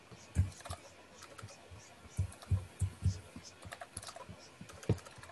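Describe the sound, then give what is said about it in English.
Someone types something up on a computer keyboard during a meeting, in short irregular bursts of soft clicks and thuddy keystrokes, fairly quiet, with brief pauses between clusters of key presses. “While he's typing that up, we can jump over.”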